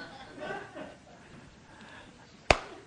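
A single sharp, loud slap, a demonstrated Gerber slap, cracks out after a stretch of low murmuring and soft chuckling, followed by a quick second smack right at the end.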